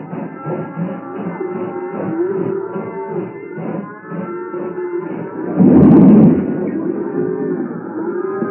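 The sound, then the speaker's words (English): A crowd of cattle in a long string of railway cattle cars near a ranch at night moo and low almost continuously, overlapping calls layered together, with a brief louder rumbling burst near the middle before the mooing carries on, as an engine backs into the cars. “an engine backed into the long string of cattle cars near the Kester ranch”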